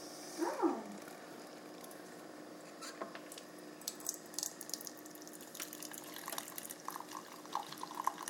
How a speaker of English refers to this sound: So our hot chocolate's pouring. Ooh, and I can smell it. It smells really good.